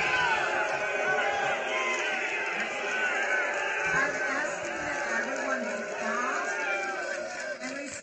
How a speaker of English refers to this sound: And you could just hear in the crowd hundreds of people shouting and screaming throughout this interchange between the LGBT homosexual crowd and the other Muslims. There's just at least, you know, 300-400 Muslims in this group.